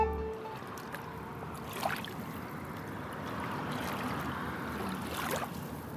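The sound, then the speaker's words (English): Soft, steady water sounds wash and ripple as the Ottawa River gently laps the shoreline at Gatineau, with a couple of brief splashy swishes rising out of the continuous murmur; no voices are heard. “The Ottawa River today is gently lapping the Gatineau shoreline, but just a short time ago, it was devastating to the people here.”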